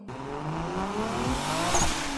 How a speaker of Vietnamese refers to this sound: Dịch Thừa chừng cô một cái, phát động xe, giẫm chân ga.